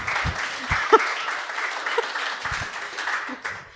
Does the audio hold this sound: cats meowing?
no